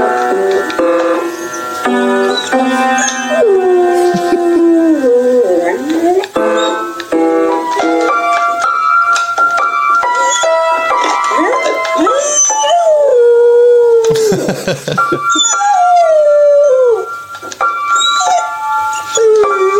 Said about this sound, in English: They've got a piano, so presumably someone sits at the piano, plays and sings, right? The dog seems to have picked up on this, and while they're out, plays the piano and sings.